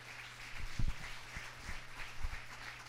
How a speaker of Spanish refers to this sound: Dele un aplauso a Cristo Jesús.